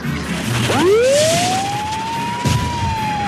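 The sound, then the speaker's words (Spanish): A police patrol car's siren starts up as the car sets off, its wail sweeping upward from low to a sustained high tone, with engine and street noise rumbling underneath. “El coche patrulla se pone en marcha.”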